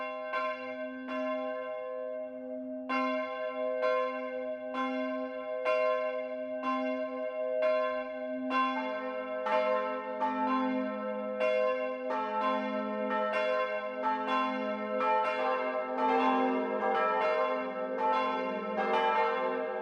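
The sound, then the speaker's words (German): The bells of the Catholic parish church St. Georg in Brackenbach, Lower Bavaria, ring out at 12 o'clock midday, a steady series of bright, resonant strikes that build into an overlapping, full peal as more bells join in, with no voices. “Das Mittagsläuten kommt heute von der katholischen Pfarrkirche St. Georg im niederbayerischen Brackenbach.”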